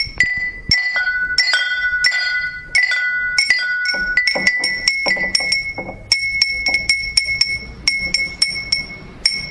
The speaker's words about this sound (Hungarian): Szépen szólnak ezek a harangok, vagy csengetyű inkább. Józsa Judit alkotta. Olyan, mint egy ilyen falusi kis harangláb, egy csomoros nyárból.